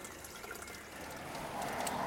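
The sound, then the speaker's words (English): Cold water pours steadily into a glass in a soft, continuous stream, its gurgle rising slightly in pitch as the glass fills. It's fairly quiet, with no one talking. “Since it's called Aqua Fresca, we should probably get some cool water. I've been talking but not drinking.”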